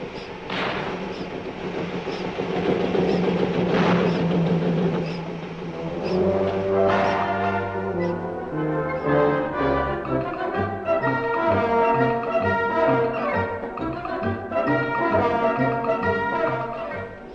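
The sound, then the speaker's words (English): A coke-fired steam locomotive engine runs with a hissing, rumbling start, then settles into steady, throbbing tones that shift in pitch, loud and continuous with no talking. “Tell you, listen to that engine purring like a kitten. Shove some more coke on a fire.”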